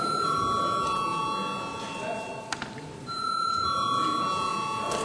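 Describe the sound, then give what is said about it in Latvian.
A continuous electric bell, called for by the chair before a parliamentary vote on a bill's third reading, rings with a steady, shrill metallic tone, breaks off briefly around the middle with a couple of sharp clicks, then resumes ringing to the end. “Paldies, lūdzu zvanu.”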